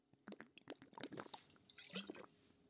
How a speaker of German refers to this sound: Ich muss noch einen Schluck Wasser trinken, Moment.